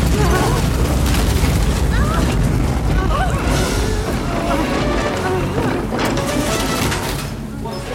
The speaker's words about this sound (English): 2, 3 more depth charges. These will be closer. Brace for impact.